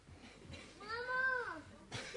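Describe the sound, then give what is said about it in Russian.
A young child lets out a single drawn-out, wavering cry or babble that rises and falls over about a second, with reverberation and faint background murmur. “Чей ребенок?”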